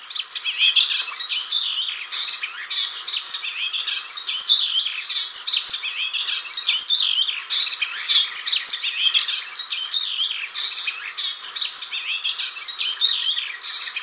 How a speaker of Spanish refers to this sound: Pero no, los sonidos no siempre tienen colores brillantes. Oculto en las marañas parlotea un zarcero entre verdoso y pardo.